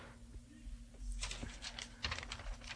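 Paper crinkles and rustles near a microphone at the WRTI-FM radio station, in a series of quick, irregular bursts over a low steady hum, with no one speaking.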